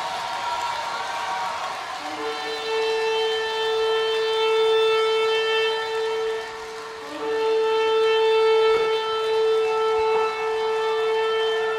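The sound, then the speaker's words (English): A shofar sounds two long, loud, steady blasts, each held for several seconds with a brief break between, its brassy tone rising over a murmuring crowd. “And so blow a shofar in Zion.”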